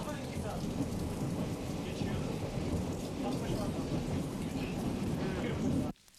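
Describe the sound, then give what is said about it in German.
A steady, loud rumble of a Berlin U-Bahn subway train running between stations, on the way to an adult education school, with dense low roaring and rattling noise that holds constant throughout before cutting off abruptly. “So hat es tönt auf dem Weg in die Schule für Erwachsenenbildung”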